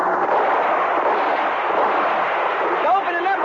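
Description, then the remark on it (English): A dense, unbroken barrage of gunfire in a shootout between police and smugglers during a bust roars steadily and loudly for the whole stretch, with a few thin whistling tones sliding through near the end. “Well, give him some cover fire.”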